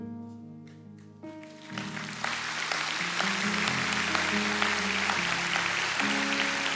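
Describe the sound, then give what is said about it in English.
An audience claps steadily for people standing after praying a prayer at a church service, the applause swelling after the first couple of seconds and continuing as a dense wash over sustained keyboard chords that play throughout. “Okay, stop clapping. Stop clapping, but remain standing.”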